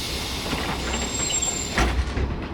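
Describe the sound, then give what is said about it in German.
A hop-on hop-off tour bus sways along toward the foot of the Pyramid of Khafre, with steady low engine noise and mechanical rattling, a faint high whine running through it and a few heavier clunks near the end, with no talking. “Der Hop-on-Hop-off-Bus schaukelt weiter, direkt zum Fuß der Chephren-Pyramide”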